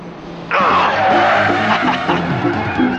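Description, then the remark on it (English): A car brakes hard as the driver turns it to go after someone, its tires letting out a loud, sustained screech that bursts in abruptly and holds for a few seconds over a low, rumbling background. “Slamming on the brakes, Murphy turns the car to go after Trackstar, who's just climbed out of the window of a nearby house.”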